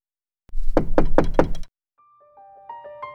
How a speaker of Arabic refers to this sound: من طرق الباب؟ صديقي طرق الباب.